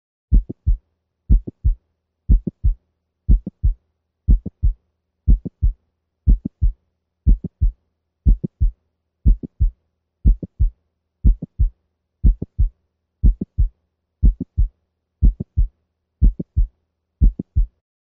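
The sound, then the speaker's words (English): Mid-systolic clicks heard in the mitral valve region: a steady heartbeat at 60 beats per minute, each cycle a low lub, then a short sharp click, then a dup. The beats repeat evenly for the whole stretch with no talking. “Listen now to mid-systolic clicks in the mitral valve region. We will listen first at 60 beats per minute.”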